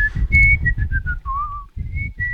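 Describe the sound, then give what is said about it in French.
A person whistles a familiar tune, clear sustained notes gliding between pitches in a simple melodic phrase, with low rhythmic accompaniment pulsing underneath. “Et voilà, on a reconnu le thème, bien entendu, oui. qu'on siffle, que tous les moineaux sifflent.”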